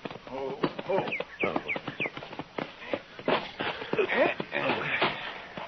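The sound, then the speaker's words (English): A horse's hooves clop steadily at a walking pace down by a corral, a run of sharp knocks heard under people talking throughout. “Down by the corral there, isn't it? Oh, yeah. He's got a new horse.”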